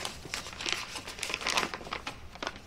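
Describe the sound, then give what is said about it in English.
Soft paper crinkling and rustling, a string of quick, crisp bursts over a few seconds as a love letter is handled and handed to a man, with no voices. “She hands him the letter.”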